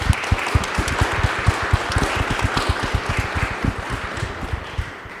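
An audience applauds poets at the end of a poetry reading, many hands clapping in a dense, even patter with sharp individual claps standing out, sustained at a moderate level throughout without any voices.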